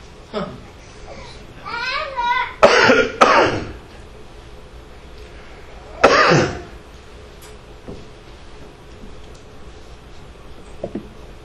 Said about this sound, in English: Some of you thought that cough was real. But there was nothing inside of me that produced that. Not a cold, not a flu. But you didn't know that. Most of you assume I coughed because something was wrong.